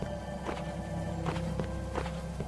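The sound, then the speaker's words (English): Video game footsteps as the character walks west, moved with the arrow keys, in a steady rhythm, soft regular thuds over a constant humming music bed with held tones. No one speaks. “Just walk. You walk with your arrows. He's walking west right now.”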